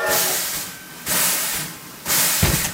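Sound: steam hissing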